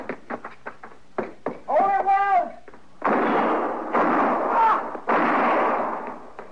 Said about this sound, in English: You were close, but he missed me. Well, you two didn't miss him. I don't know which one of you fired first, but either both would have done it.